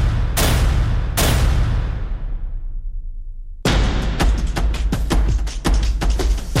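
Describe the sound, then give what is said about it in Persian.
Two loud, echoing gunshots ring out between buildings, then a rapid burst of automatic gunfire crackles in quick succession, sharp, with a reverberant street-like tail. This is automatic fire in the street against protesters during Iran's Aban protests. “با شلیک مستقیم به سر معترضان، به بدن شهروندان، بی پرواتر از همیشه در نمایش خشونتی عریان، با رگبار در خیابان، تک تیرانداز بر بام”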